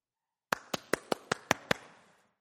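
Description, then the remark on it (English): Seven sharp hand claps ring out in a quick, steady rhythm, each with a short echoing tail, as someone claps at the door of a house in an Indian village in Brazil instead of knocking, at 5:30 in the morning; no voices are heard. “In Brazil, they don't knock when somebody comes to your door. They clap.”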